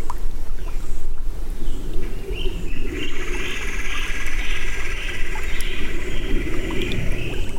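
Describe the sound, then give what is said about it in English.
Tons of big fat tadpoles breaking the surface of a pond tucked into a mountainside at Seven Bends park make a dense, continuous patter of tiny plops, like countless water drips. High, steady bird or insect tones run faintly above the texture. “If you listen very closely, you can hear what sounds like water dripping. It's actually tons and tons of big fat tadpoles coming up to the surface of the pond.”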